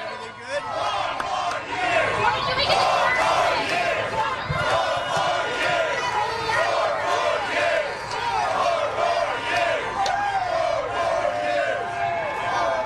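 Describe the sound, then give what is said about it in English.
A large crowd shouts and chants outdoors at a bodega in Harlem, New York, during a visit by Trump, many overlapping voices at a steady, loud level throughout, with scattered yells rising above the din. “Here's a little bit of how the crowd sounded when he went to Harlem yesterday at this bodega.”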